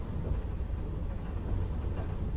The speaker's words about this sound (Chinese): 笨蛋，这一次为什么选择火车呢？